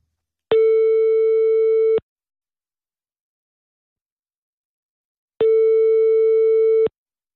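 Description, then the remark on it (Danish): Two steady, buzzy telephone ringback tones, each lasting about a second and a half, separated by a long silent pause, as heard while an outgoing call to Iris Blomster in Fredericia rings on the line. “Men jeg vil bede om en opringning til Fredericia.”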